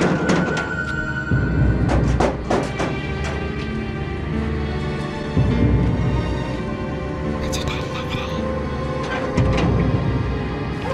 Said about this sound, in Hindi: फिर अचानक से दरवाजा बजा।